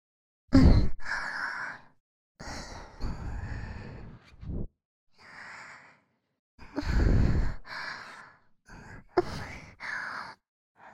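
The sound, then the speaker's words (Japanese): Breathy exhales and sighs right at the ear, roughly eight or nine airy puffs in an irregular rhythm, some long and drawn out, others short, with no speech. “こうやってささやき声と私の吐息を聞きながら”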